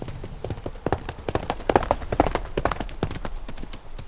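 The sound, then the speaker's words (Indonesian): Horse hooves clip-clop in a steady, brisk rhythm, many sharp knocks in quick succession, moderately loud throughout. “Lalu, Abu Sufyan segera menuju ke tempat para penunggang kuda itu.”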